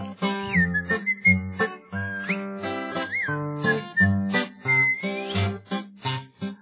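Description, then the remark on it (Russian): A clear, bright whistled melody with sliding pitch bends, played over a steady rhythmic instrumental accompaniment, moving through a lively tune for several seconds without any voices. “Он знаменитый был артист, играл он на гитаре, и был художественный свист в его репертуаре.”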